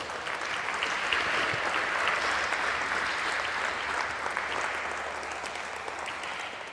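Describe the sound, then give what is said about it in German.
An audience at a talk on 5G surveillance standards claps steadily throughout as the speaker is welcomed, a dense, sustained patter of many hands at an even, moderately loud level with no voices standing out. “Ist schon Applaus, ihr wisst noch gar nicht, was euch erwartet.”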